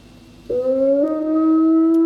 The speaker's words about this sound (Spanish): Eso es un aullido, Mon.